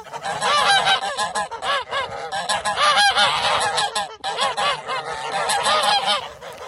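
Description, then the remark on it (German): A flock of geese cackles and honks loudly and continuously, many overlapping calls with no pause, a dense, raucous chorus throughout. “es gibt auch ganz, ganz wichtig die Schnattergänse, und ja, die können ganz schön laut sein.”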